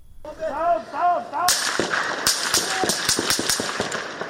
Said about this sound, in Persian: صدای تیراندازی و بعد فریادهای تیم خبری شبکه الجزیره.